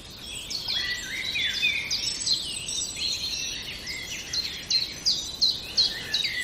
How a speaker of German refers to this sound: Und der Zipzap ist ein spannender Vogel, weil der wird oft vernachlässigt, was so die Vogelsprache angeht. Er ist aber ein super Einstiegsvogel für Leute, die einsteigen in die Welt der Geräusche und Klänge, weil er so einfach zu erkennen ist